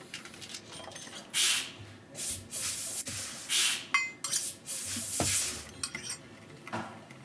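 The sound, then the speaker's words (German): Repeated bursts of bright hissing mixed with clattering and clinking as objects are set down at the start of a film recording, like dishes and utensils handled in irregular succession, moderately loud with no talking. “Jetzt höre ich eine Atmo, ein Zischen. I hear a lot of sounds. Zischen, Abstellen eines Gegenstandes.”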